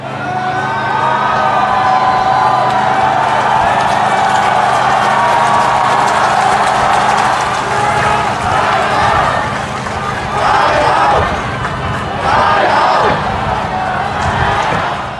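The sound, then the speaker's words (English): A large crowd of protesters roars and cheers continuously as they break into the city's Legislative Council building, with shouts and whoops rising out of a dense wall of voices and scattered banging, loud throughout. “Listen to this clip of the crowd celebrating when they finally broke into the building.”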